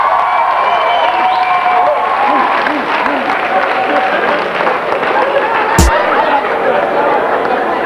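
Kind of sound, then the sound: crowd, audience applause and cheering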